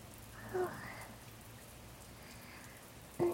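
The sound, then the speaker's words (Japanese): Steady rain falls on a muddy road throughout with a soft, even hiss, broken by a brief louder patter near the start and again at the very end. No one speaks. “雨のせいで、先が見づらいですし、道がぬかるんでいます。”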